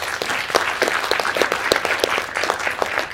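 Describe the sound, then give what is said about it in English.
An audience claps steadily, with dense overlapping handclaps forming a sustained wash of applause throughout, fairly loud and with no one speaking over it. “Et je crois que là aussi, on peut l'applaudir très chaleureusement.”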